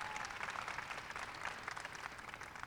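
Sustained applause from a sizable audience, many hands clapping in a dense, steady wash of sound that stays loud and even for a few seconds without any talking.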